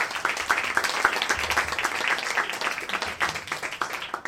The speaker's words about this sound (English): Are you ready for your next storyteller? Yes. Okay, I want the applause to come from you, sir. Please welcome to the stage,